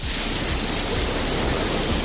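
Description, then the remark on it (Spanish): A hailstorm in Lugo, Galicia, Spain pours down in a dense, unbroken hiss of countless tiny impacts, steady and fairly loud for the whole stretch, with no voices and no change in intensity. “Sonido de una granizada en las últimas horas en Lugo.”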